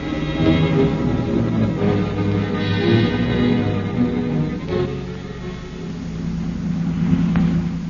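A car drives steadily along the open road, nearing the Colorado line, its engine giving off a continuous low, droning hum with slight rises in pitch, fairly loud, with no voices.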